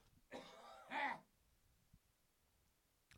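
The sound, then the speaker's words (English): A person clears their throat and then gives a short, harsh cough, both within about a second, followed by quiet room tone with faint small noises. “I'm going to cough here in a second.”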